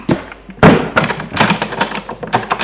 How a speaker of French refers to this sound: Il entre. Elle ferme la porte.